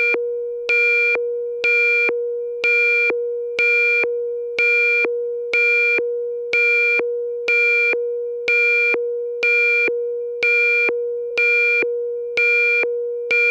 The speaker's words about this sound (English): It's 5:30 a.m. The alarm on the phone shrieks.